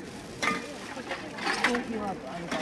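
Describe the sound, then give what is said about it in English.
Glass bottles clink together in a few sharp, irregular bursts as a woman at a door sorts trash, separating bottles from plastic, paper and cardboard for recycling after a tsunami and earthquake, with people talking throughout underneath the clatter. “but there's a lady here at the door sorting the trash and separating the bottles from the plastic, from the paper and the cardboard for recycling.”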